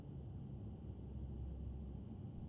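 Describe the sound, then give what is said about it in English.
A steady, low droning rumble fills the space, like engine noise heard from inside an airplane cabin, constant and unbroken with a faint hiss above it and no voices. “Do you think they have cameras on this plane?”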